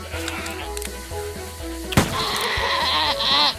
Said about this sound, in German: Na, wo bist du? Ziege.